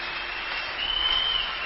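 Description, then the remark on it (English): Steady, dense applause from a large church audience clapping together, a continuous wash of handclaps with no single claps standing out. “Won't you clap your hands, our God?”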